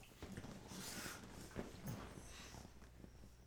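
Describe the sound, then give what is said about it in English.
A female dog whimpers and snorts in short, breathy bursts, with soft nasal huffs and faint high whines repeating over a few seconds against low background hiss. “Why don't you give that dog a push so she stops making that sound?”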